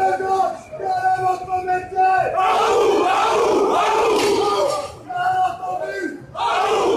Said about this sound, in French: Point commun de toutes ces manifestations, un cri qui parcourt les cortèges.